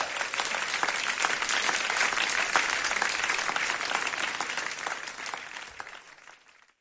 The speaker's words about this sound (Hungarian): Igazi profi zenészek játszottak az elmúlt percekben, még a közönség is megtapsolta őket.